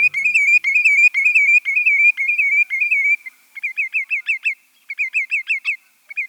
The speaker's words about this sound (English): The musical wren-like song you just heard is that of a lesser yellowlegs, a type of sandpiper. We know lesser yellowlegs and other sandpipers for their busy foraging on mudflats and at the ocean's edge, but perhaps not for their singing.